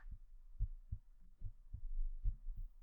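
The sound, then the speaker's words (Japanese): A muffled heartbeat thumps in steady lub-dub pairs, three double beats in quick succession over a faint low hum, with no voices present. “そりゃドキドキするでしょ。”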